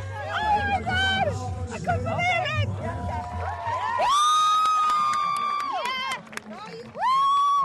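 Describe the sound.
A loud crowd cheers and shrieks as it crushes in around Bolt while he poses for photos, many overlapping voices rising into high-pitched screams, with a brief dip before another burst of excited shouting at the end.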